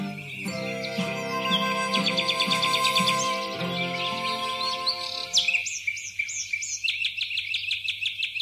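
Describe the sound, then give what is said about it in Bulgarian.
Birds in a forest chirp and tweet in quick, repeated bursts, fairly loud, over a sustained tonal background that drops away partway through, leaving the bright chirping on its own. “Разбира се, ще мина през гората. Аз не се страхувам от нея. Тук имам толкова много приятели. И птичета, и цветя, и животни.”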